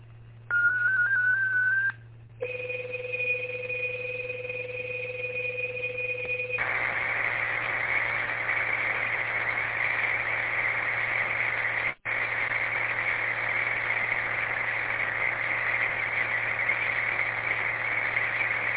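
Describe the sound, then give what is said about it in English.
Steady electronic tones of a 48-second digital traffic transmission from station KGTC over a radio repeater system: a short warbling pitch, then a pair of sustained whistling tones, giving way to a continuous hissy, buzzing digital signal with a low hum underneath and a brief dropout. “I do have some digital traffic, so if you have your tablets ready, this one will be for 48 seconds.”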